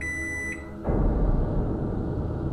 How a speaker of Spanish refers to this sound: Estaba pensando eso cuando escuché que sonó el microondas en la cocina.